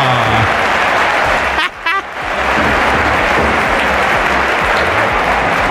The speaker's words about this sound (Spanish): Así que ¡venga ese aplauso!